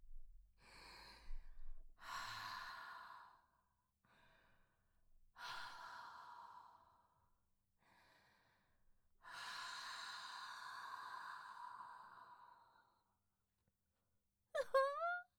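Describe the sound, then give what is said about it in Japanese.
Several slow, warm breaths blown right up against the microphone, soft and airy, one stretching out long, followed by a brief breathy vocal sound at the end. “あったかい吐息、吐きかけてあげよっか。”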